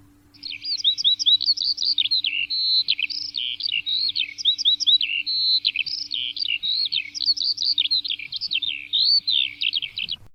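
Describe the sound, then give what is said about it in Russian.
A skylark sings a long, unbroken stream of rapid, high warbling trills and chirps, loud, continuing without pause for the whole stretch with a faint low hum underneath. “Целый день трудился жаворонок, летал в поднебесье и пел. Пел, чтобы все знали, что все хорошо и спокойно, и поблизости не летает злой ястреб.”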